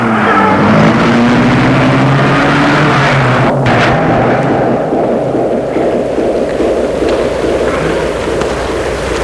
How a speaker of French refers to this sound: Une voiture démarrer, grande voiture, et voir c'est une voiture noire.